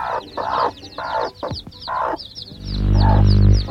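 hen clucking

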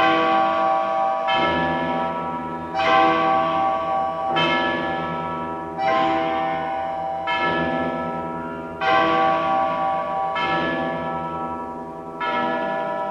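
cathedral church bell ringing

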